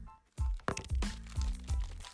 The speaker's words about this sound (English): Let's dive in. Let's open up some Ritz.